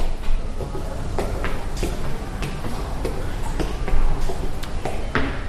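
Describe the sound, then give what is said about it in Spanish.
Hospital doors are opened and closed along long corridors on the way to the intensive care unit, in a steady run of clicks, latches and soft thuds over a low, constant indoor rumble, the repeated knocks spaced about a second apart. “Abrimos unas cuantas puertas, cerramos otras tantas hasta llegar a la unidad de cuidados intensivos.”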